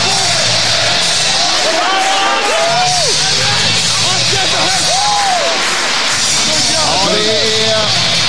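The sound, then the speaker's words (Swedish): A loud ice hockey arena crowd in Umeå roars and cheers continuously as Björklöven return to Hockeyallsvenskan, spectators standing and applauding, with steady applause underneath and scattered shouts and whoops rising above the dense wash of noise throughout. “Absolut, jag tror inte en enda åskådare har lämnat arenan, utan alla står manfall kvar och applåderar.”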